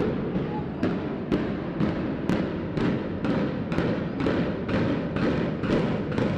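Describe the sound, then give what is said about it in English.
The implosion of a university building at Western in the calm early morning: about a dozen sharp, booming, timpani-like blasts go off in quick, evenly spaced succession over a steady low rumble, each hit punchy and drum-like. “Just a shell of the building remained when that timpani drum-like sound shattered the calm morning air.”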